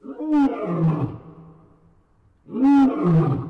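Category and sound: animal, african lion roaring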